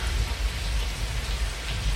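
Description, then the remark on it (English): Heavy rain pours down steadily in a scene from the film Blade Runner, a dense, loud hiss of drops drumming on surfaces with a deep low rumble underneath, continuous with no voices. “In the film, it was actually raining cats and dogs at the time, so very noisy.”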